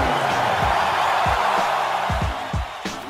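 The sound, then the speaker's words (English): A loud, sustained roar of an arena crowd cheering for Kobe Bryant, number 8, as he is replaced after an 81-point game, steady and dense throughout, with a few dull low thumps breaking through underneath. “Be replaced, and listen to this crowd for number 8, Kobe Bryant.”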